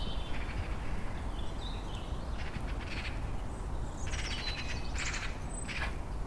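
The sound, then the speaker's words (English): Birds chirp and call intermittently in bright, scattered bursts in a garden on a sunny day, over a steady low outdoor rumble, with no voices, the calls not loud. “Got the birds singing.”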